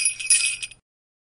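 Sleigh bells jingle in a quick, bright shimmer, shaken in a few pulses for under a second before cutting off into silence.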